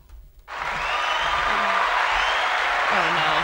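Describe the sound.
Applause bursts in abruptly after a brief moment of quiet, a dense, steady wash of clapping from a crowd that holds at full loudness, with faint voices murmuring underneath.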